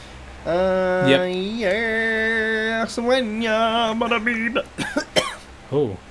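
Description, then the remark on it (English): A voice holds a long, wavering sung note from The Lion King, then breaks into a short fit of three or four sharp coughs followed by one more cough a moment later. “When the Lion King makes you cough.”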